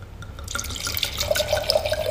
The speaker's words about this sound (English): Can I pour you another glass of wine?